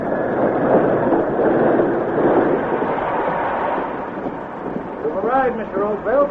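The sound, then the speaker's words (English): A steam train pulls in with a loud, steady hiss of steam and rumbling noise. Near the end, shrill, wavering whinny-like cries of frightened buckboard horses rise over the roar. “The arrival of the train with its hissing steam and flying sparks sent the buckboard horses into a frenzy of fear.”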